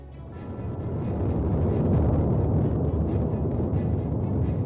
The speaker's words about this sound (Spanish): Así ruge desde el mismo corazón el volcán de Cumbre Vieja, al que estamos viendo gracias a los drones.